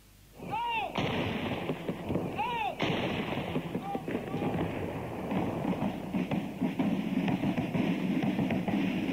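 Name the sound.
21-gun salute cannon fire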